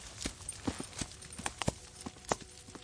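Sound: horse hooves clip-clopping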